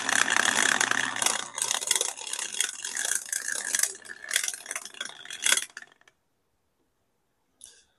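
A die, used to forecast the US stock market, rattles in a cup and tumbles out with bright clattering clicks for several seconds, then settles to silence before one last small clack near the end.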